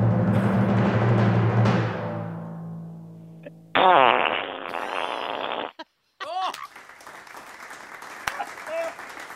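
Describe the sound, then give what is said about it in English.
A long, low, buzzing hand fart made by squeezing the palms sputters for several seconds, then sharper squelching blasts follow with wobbling pitch, loud, amid clapping and voices. “…, that was the perfect hand fart.”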